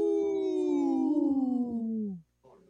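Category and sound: vocal imitation, people imitating wolf howls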